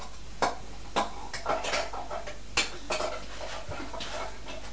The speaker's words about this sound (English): Is that a board? A board. It's a chopping board. Chopping board.